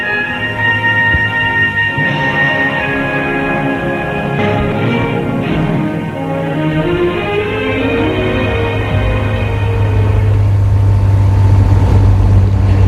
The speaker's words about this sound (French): La voiture pour aller à l'école, qui se trouve au bourg un peu plus loin.